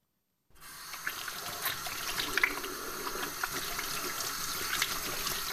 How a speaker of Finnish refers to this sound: Vettä ja saippua ties kuinka monennen kerran tänään.